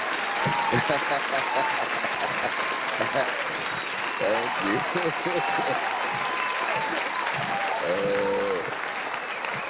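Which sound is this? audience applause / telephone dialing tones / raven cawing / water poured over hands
audience applause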